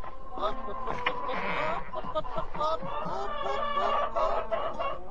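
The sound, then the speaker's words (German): A crowded flock of hens clucks and squawks nonstop as the coop is opened to let them out, many overlapping calls, fairly loud and busy throughout, with a sense of agitated activity. “Mach den Schlag auf, lass die Hühner raus!”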